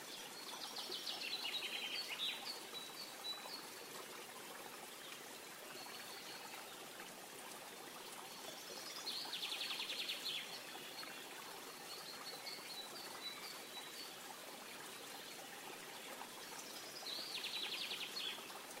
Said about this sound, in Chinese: 观察溪流如何绵延不断，时时刻刻地往前流淌。